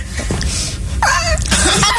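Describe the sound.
Young children imitate a lion cub's roar like little baby Simba: a short, high, wavering vocal cry followed by a breathy, raspy burst, both loud over a steady low background rumble.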